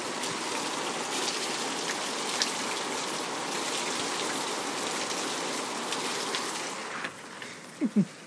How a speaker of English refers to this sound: Sound of rain. Gotta love it.